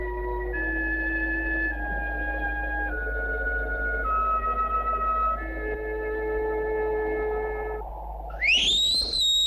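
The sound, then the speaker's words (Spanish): A horseman's loud, sharp whistle signaling foot soldiers rises in pitch near the end, following several seconds of sustained, steadily shifting tones. No one speaks. “Tras el silbido del jinete, los soldados de a pie corren ladera abajo.”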